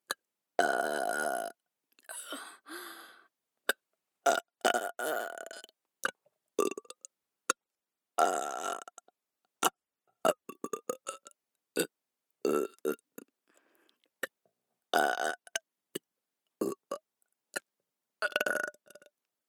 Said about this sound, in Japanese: 汚いゲップ聞きながら勝手にしこれ。